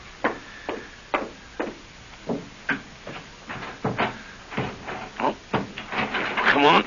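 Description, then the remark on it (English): A stuck porch door is rattled and jerked repeatedly, a quick, uneven series of sharp wooden knocks and clatters, with a voice briefly joining toward the end. “Come on, door. Open, will you? The darn thing's stuck.”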